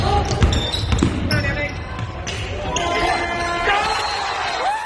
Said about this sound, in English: Crowd goes wild. That happened in Boyne City. Clock expiring.